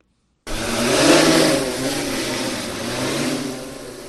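A multispectral-enabled agricultural drone, airborne over the Kpong Irrigation Scheme in Ghana and surveying crops for diseases and pests, flies with a steady, high-pitched motorized whir and buzz that starts abruptly, swells slightly, then holds at a constant loud hum. No voices are heard.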